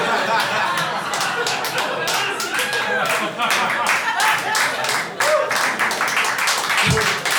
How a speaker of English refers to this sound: Thanks. Four of you really like applause, and I appreciate that. I feel it in my heart. This guy especially, thank you.